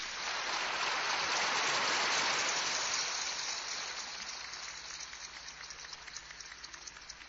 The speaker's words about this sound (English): Well, round of applause.